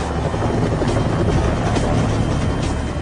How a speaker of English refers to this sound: This chopper appears out of nowhere. All right, that is awesome.